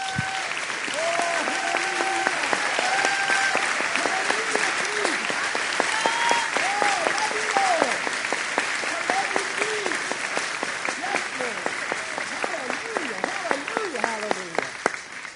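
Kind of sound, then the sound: crowd, audience applauding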